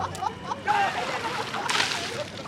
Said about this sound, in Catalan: Al parc, la classe juga a tirar-se aigua amb ampolles i pistoles d'aigua.